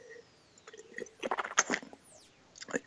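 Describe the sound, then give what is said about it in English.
Wet mouth noises of someone sipping a 2014 Shiraz and Cabernet Sauvignon blend wine, a cluster of short slurping bursts followed by a pause and a final gulp, with no talking. “This is I'm gonna have another sip.”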